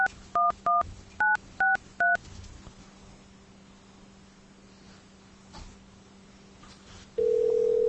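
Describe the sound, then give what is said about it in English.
A quick run of about six touch-tone keypad beeps enters the caller's telephone number and the asterisk at an automated call-screening prompt, followed by a few seconds of quiet line hiss before a steady, louder electronic tone sounds at the end. “Otherwise, please enter the 10-digit telephone number you are calling from. Put the asterisk number in.”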